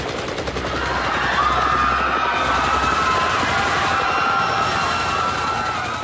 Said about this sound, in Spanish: En un momento, aparecieron tropas de soldados que comenzaron a avanzar hacia los protestantes y luego se escucharon disparos, lo que desató el infierno.